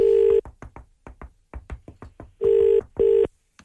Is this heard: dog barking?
no